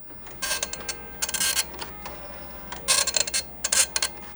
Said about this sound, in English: An old printer clacks as it produces an image from the first version of Microsoft Paint.